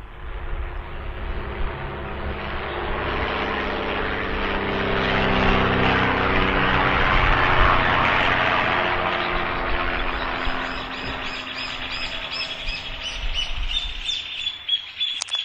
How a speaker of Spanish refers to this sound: Cuento que esta avioneta que está fumigando, fumiga un campo que linda con la escuela 4, que está en Parada Robles. Ahí, a 100 metros está el colegio y está fumigando desde aquí atrás hasta todo lo que va al campo, que llega hasta la ruta 8.